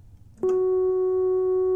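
A steady, pure sine wave tone from an oscillator switches on abruptly after a moment of quiet background hum, then holds loud and unwavering at one low-to-mid pitch until the end.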